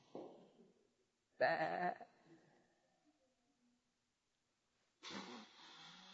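Sheep bleating in a few loud, wavering bursts separated by short pauses, clear with no talking over them.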